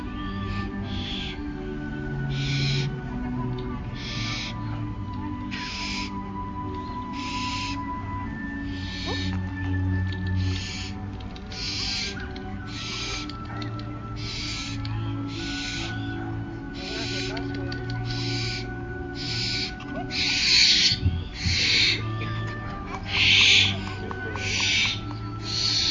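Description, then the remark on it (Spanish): A barn owl gives a steady series of harsh, hissing calls, repeating roughly once a second for the whole stretch, over a low constant background rumble. “El plumaje de las lechuzas, al igual que el de los búhos, es suave y sedoso, y la primera capa de sus alas es abierta y desplegada.”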